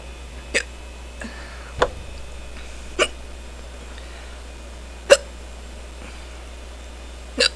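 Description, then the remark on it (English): A person sitting at a computer hiccups repeatedly after sipping beer, about six sharp, short hiccups spaced a second or two apart, fairly loud over a quiet background hum with no talking. “I'm surprised I got the hiccups so quickly this time.”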